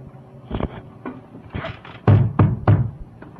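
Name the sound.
knocking on a door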